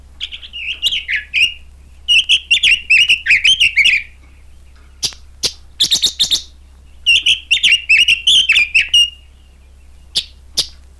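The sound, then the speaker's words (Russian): Clear song of a red-billed leiothrix (Chinese nightingale), recorded in riverside tugai thickets in Semirechye: several short, melodic warbling phrases with quick chirps, separated by brief pauses, with no voices. “А это короткая, но весьма мелодичная песня.”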